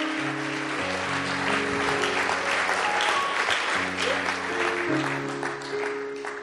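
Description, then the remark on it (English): An audience claps steadily in a dense, sustained wave of applause, full, while organ chords hold and change underneath throughout, a hand clap of praise to the Lord. “Let's give the Lord a big, big hand clap of praise.”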